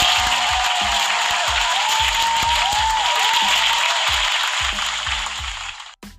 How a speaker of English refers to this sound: so round of applause for you guys.